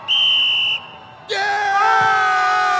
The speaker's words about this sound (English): To blow the whistle, ref. Blow it.